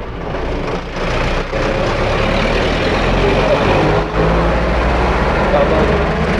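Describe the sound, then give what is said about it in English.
Loud, continuous roar of road traffic, with cars and heavy trucks rumbling past in a dense, steady wash of engine and tire noise. Indistinct voices may be buried underneath. “We go somewhere else, there's too many cars here.”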